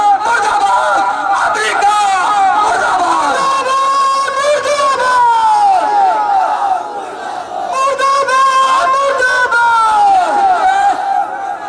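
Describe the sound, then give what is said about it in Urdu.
A large crowd chants the slogan "murdabad" ("death to") in unison, loud, rhythmic shouted phrases repeating with brief swells, a dense roar of many voices throughout. “اور انشاءاللہ آپ کے اس نعرے سے دنیا میں انشاءاللہ بیداری آئے گی کہ مردہ باد.”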